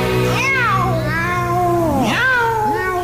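A cat meows loudly and close by, two long, wavering meows in a row, the second rising sharply then sliding down, with no talking.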